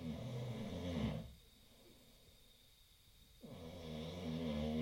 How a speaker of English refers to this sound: has learned to sleep through the night, comfortably, snoring.